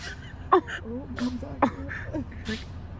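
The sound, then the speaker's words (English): An elk sneezes twice, blowing a puff of vapor from its nose, each a short, sharp, breathy burst about a second apart, followed by a fainter puff, with soft voices murmuring underneath throughout. “I want to hear the sneeze sound effect”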